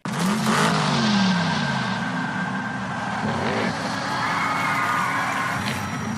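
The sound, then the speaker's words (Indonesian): Loud, continuous engine roar of racing cars, with rising and falling revs as they speed past, sustained throughout with a dense, busy background and no talking. “Anda penggemar film animasi Cars dan senang menonton adu balap mobil NASCAR?”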